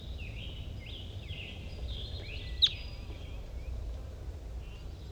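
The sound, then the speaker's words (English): A wild crossbill calls faintly in the distance at 10:12, a series of thin, high chirping notes over a steady low rumble, with one sharp click partway through. “Start recording, it's 10:12 now, and there's another wild crossbill coming around.”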